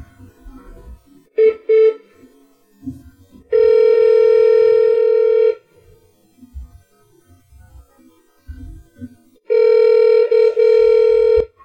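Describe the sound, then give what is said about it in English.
A few quick telephone dialing beeps as a call is placed to Shore Rivers, a clean-rivers group on Maryland's Eastern Shore, then two long, loud, steady ringing tones about four seconds apart, with a low murmur of background noise in the gaps. “I'm going to call”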